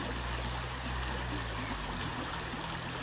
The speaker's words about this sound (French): Les sons de la nature qui renaît. Le bruit de la rivière.